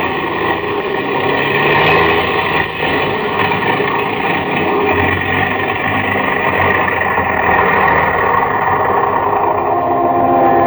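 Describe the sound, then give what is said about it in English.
The engines of an airplane with engine trouble roar in a loud, steady drone that fills the whole stretch, dense and unbroken with a slight rough, labored texture, as the plane flies over hundreds of miles of jungle, with no voices. “The engines are stopping. We're going to fall.”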